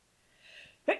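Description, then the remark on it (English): A single sneeze: a rising breathy intake, then a sharp, loud explosive burst that quickly fades. No one talks. “Bless you.”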